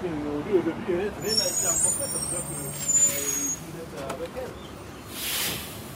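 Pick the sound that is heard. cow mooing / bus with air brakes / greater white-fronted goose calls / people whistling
bus with air brakes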